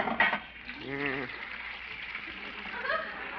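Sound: water boiling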